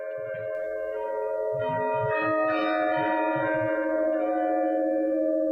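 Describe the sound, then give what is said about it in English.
The bells of Christ Church in Philadelphia, dating back to the 1700s, ring continuously, recorded by author Richard Rath; their overlapping tones sustain and blend into a steady, resonant wash with faint low pulses beneath, fairly loud and with no voices. “You're listening to his recording of the bells at Christ Church in Philadelphia.”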